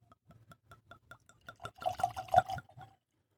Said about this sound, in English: And then also here is the bottle, the Morning. You can see that. Pretty cool label, nice bottle, nice stamp. And then I'm going to pour myself this.